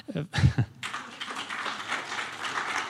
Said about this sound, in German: bitteschön, wenn Sie klatschen möchten, gerne.